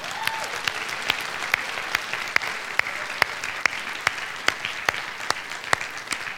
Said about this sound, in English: So, of course, this Christmas presentation is Christ-centered. Because who is the center of Christmas? Jesus Christ, our Lord and Savior. So let's give Jesus a big applause.